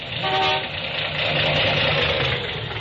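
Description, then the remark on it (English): A car engine with half its spark plugs failing idles roughly and misfires, a steady rumble with a noisy, uneven sputter throughout and a brief tonal whine near the start. “Well, it's misfiring some.”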